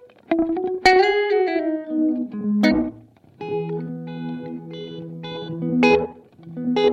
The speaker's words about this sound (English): And the wet down just a little bit. Is that space knob still up? Yeah, it is. Okay, I was going to say, because I was like, still sounds so reverb-y.